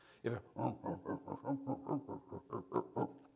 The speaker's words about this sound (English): That's a hog. It's not a pig. That's a hog.